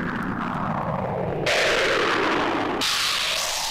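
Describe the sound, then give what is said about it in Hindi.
A loud, rolling thunderclap rumbles on its own, with a deep roar that suddenly brightens into harsh crackling bursts partway through before settling into a sustained rumble. “मैं शोर नहीं करूंगा, मैं तो बिजली हूँ।”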